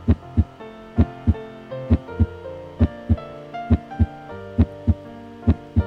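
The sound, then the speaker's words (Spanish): A steady heartbeat thumps in paired lub-dub beats, low and deep, repeating at a calm pace over a sustained, warm musical drone with no voices. “Y vas sintiendo ese latido del corazón de Gaia.”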